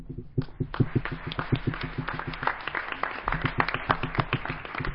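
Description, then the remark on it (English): An audience applauds the speakers at a talk, many hands clapping in a dense, irregular patter that holds at an even, moderate loudness throughout, with no voices standing out. “I just wanted to have another round of applause for our speakers, so thank you.”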